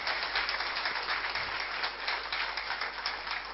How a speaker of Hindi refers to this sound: इतनी कम तालियों से काम नहीं चलेगा, जिन्होंने लगातार इतना आभार सभी के लिए व्यक्त किया, तो एक बार जोरदार तालियां उनके लिए।